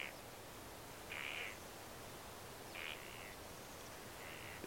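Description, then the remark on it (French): Harsh crow caws ring out four or five times at uneven intervals, faint against a steady hiss of background noise, with no one speaking. “Ça, c'est, tout d'un coup, c'est moins gai, oui, évidemment, mais les enfants sont transformés en corbeaux.”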